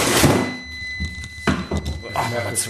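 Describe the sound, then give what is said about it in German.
A refrigerator door shuts with a single dull thunk, cutting off a steady high-pitched alarm tone from the fridge's door-open safety alarm that had been ringing; low murmuring voices and shuffling surround it. “Mach es mal wieder zu.”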